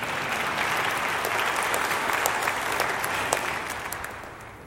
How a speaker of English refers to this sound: Yeah, you can clap at that point if you want.